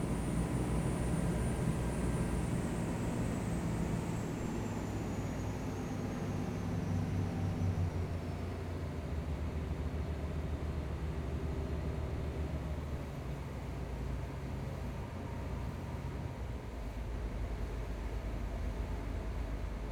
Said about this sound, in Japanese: エンジン音変わったぞね。スピードも目に見えて落ちて。